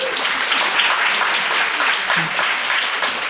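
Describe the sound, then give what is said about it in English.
An audience claps steadily for a few seconds in response to a question about feeling tired a lot, a dense, even patter of many hands at fairly loud level, with faint voices mixed underneath. “Yeah, we're preaching to the choir a little bit, but we definitely got more clapping on the kind of crisis type.”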